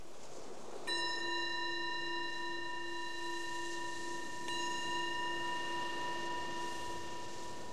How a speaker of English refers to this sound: The bell is the invitation to transition from whatever you were doing, inviting the mind to come inwards and be aware of what's happening right here, right now.